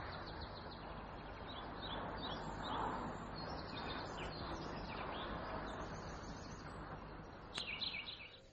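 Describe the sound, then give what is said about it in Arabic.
Faint bird chirps and song flutter on and off over a steady hiss of outdoor ambience, with a brief brighter burst of calls near the end; the birds are being recorded for a sound lab. “بتسجيل أصوات الطيور لإضافتها إلى مختبره الصوتي،”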